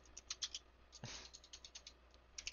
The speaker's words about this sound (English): Okay, hold on, fellas. He's typing in all caps, by the way.